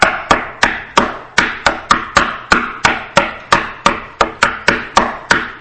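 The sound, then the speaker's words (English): Steady, loud hammering on metal from construction work putting on a metal roof, heard from a hotel at night: roughly sixteen sharp strikes at an even quick rhythm, each leaving a brief bright metallic ping as it rings out. No voices. “And then add in some metal pinging, because this was a metal roof that was going on here.”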